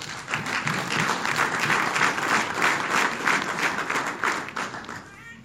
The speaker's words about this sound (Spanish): ¿Cuántos jóvenes tenemos aquí que levanten la mano? Vamos a dar palmas al Señor por ellos.